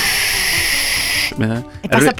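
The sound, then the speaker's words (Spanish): A voice imitates a rushing river coming down from the mountain, the kind used for rafting, with a loud, steady breathy hiss lasting just over a second, followed by a brief burst of voiced vocal sounds. “pasa un río que viene bajando de la montaña.”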